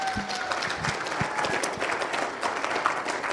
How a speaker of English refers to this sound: And so, isn't it amazing that we can clap for addictions in church?